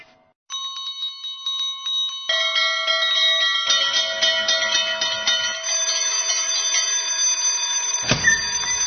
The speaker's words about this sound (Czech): Školsko zvono i to poslednje. Danas su mnogi maturanti čuli svoje poslednje školsko zvono